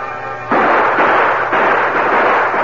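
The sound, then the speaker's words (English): Loud gunshots from a deputy's drawn gun crack out, two heavy blasts about a second apart, each followed by a rough, echoing roar, after a brief humming tone at the start. “The Lone Ranger and Tonto saw the gunfire.”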